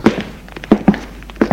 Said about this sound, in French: Elle entend le bruit d'une porte qui s'ouvre. Des pas dans le couloir.